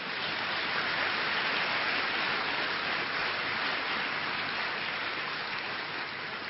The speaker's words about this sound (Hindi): तालियां बजाओ जना।